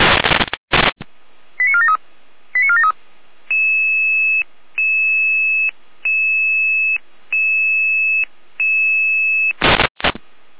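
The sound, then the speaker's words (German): Radio alerting tones for fire brigade units Florian Probstzeller 43-1 and Florian Zopten 40-1, sent out at 7:49 for a minor traffic accident on the B85 between Probstzeller and Gabe Gottes: a brief flurry of chirps, then a steady series of five long, even electronic tones with short gaps, bracketed by harsh bursts of radio static. “In Alarmierung.”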